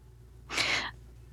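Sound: pet bird vocalizing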